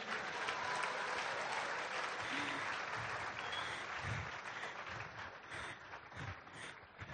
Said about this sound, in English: I think it's only fitting that we give another round of applause for Ezemo.